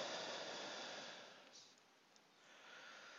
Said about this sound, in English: Pardon my sniffling and my voice. I've been sneezing this morning, even as I'm charging. Just a little bit of a sinus thing.